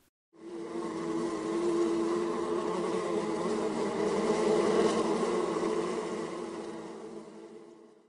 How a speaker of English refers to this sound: I had to handle the Apis mellifera watsonia by myself, you asshole.